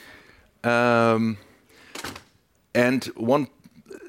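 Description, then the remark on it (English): A door is closed, with drawn-out creaking tones from the hinges, a short bump partway through, and another creak that bends in pitch near the end. No one speaks. “I will close the door here.”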